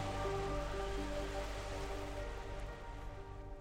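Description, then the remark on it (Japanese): Heavy rain pours down in a steady, dense hiss from start to finish during a storm, loud, with low sustained tones faintly underneath and no voices. “暴風雨の後はからりと晴れて、いよいよ雪の降りそうな寒さとなりました。”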